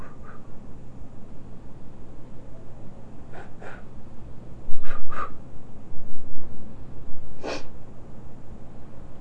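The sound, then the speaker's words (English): Several short, forceful nose blows from a child puff out at uneven intervals, each a brief breathy snort over a steady low background rumble, with no talking. “Well, I can blow too.”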